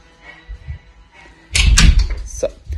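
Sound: door being closed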